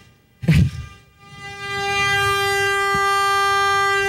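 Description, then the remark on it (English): A short thump, then the stuck horn of a crashed car whose airbags deployed starts up and blares without a break, a steady, loud, buzzy tone that holds unchanged to the end with no voices. “The horn is stuck on the car.”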